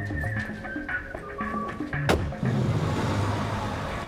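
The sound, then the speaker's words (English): Sustained tonal music plays, then a sharp thump is followed by a steady, rumbling engine roar as a man drives his car off in a basement car park, loud. “As he drives off, Okwe steps out in front of him with a determined expression”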